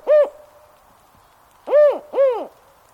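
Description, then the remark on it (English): A spotted owl hoots three times: one call, a pause, then two quick ones in succession. Each is a low, rising-and-falling harmonic note, with no voices present. “Less than 10% of such forest remains in the Northwest, and the hoots of the spotted owl have become increasingly rare.”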